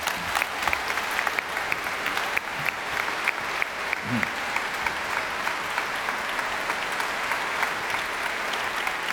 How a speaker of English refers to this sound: I think if we all give him a huge round of applause, he'll come out on stage. So put your hands together for our conductor this morning,